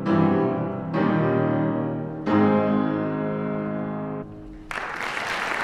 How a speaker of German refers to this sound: Applaus für den bürgerlichen Idol der Revolution, Applaus für Heinrich von Gagern aus Kelkheim-Hornau.